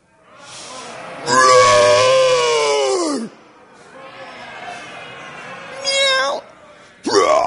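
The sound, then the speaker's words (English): Children in a teacher's classroom demonstration of Daniel in the lion's den roar together as lions while a child playing Daniel goes in: one long, loud, strained cry that falls in pitch, a quieter stretch of growling, then two shorter, sharp bursts of roaring. “We're going to do one kid, so I want everybody to roar until Daniel goes in the lion's den.”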